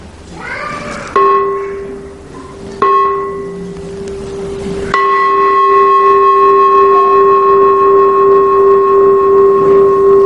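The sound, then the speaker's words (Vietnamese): A bell of a communal house shrine (đình miễu), not a Buddhist pagoda bell, is struck three times in fairly quick succession, each blow adding a loud, steady ringing tone with bright overtones that hums on without fading. “Vậy là chuông của đình miễu, không phải chuông chùa.”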